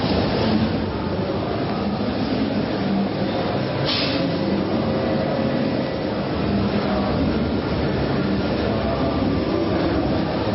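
A subway train rumbles steadily for about ten seconds, a dense, even roar of wheels and rails with faint rattling and one brief hiss, no voices.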